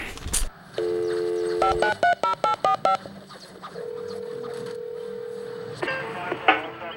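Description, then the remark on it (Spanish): A steady dial tone gives way to a quick run of about seven short, evenly spaced keypad beeps, followed by a long, clear ringing tone. No one speaks. “Por fin coges el teléfono.”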